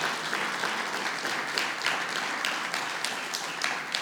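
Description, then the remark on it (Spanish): An audience applauds the Lord steadily for about four seconds, a dense, even wash of many hands clapping with crisp individual claps standing out now and then, no voices on top. “Hermano, dele un aplauso al Señor si tú lo crees.”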